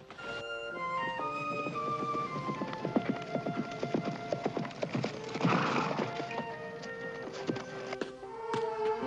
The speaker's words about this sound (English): She hears the horse approaching and looks up excitedly.